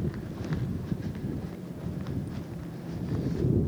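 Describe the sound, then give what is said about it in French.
Strong, harsh wind gusts along the seafront promenade of Dunkirk at night, in front of a large hotel and closed bistros, a constant low roaring rumble buffeting the microphone with faint higher hiss, swelling slightly toward the end, with no one speaking. “Là, il y a un vent mauvais qui fouette en face du grand hôtel et des bistrots fermés de la digue de Dunkerque.”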